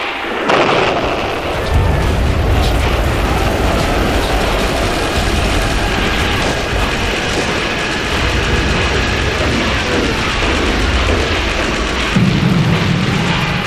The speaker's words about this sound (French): Donc la Grande Guerre, si l'on parle de l'écoute, si l'on parle du son, c'est d'abord le canon, c'est ça qui matérialise le front et qui matérialise le danger principal.